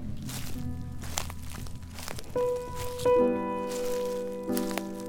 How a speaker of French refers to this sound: Tu crois que je pourrais enregistrer tes bruits de pas?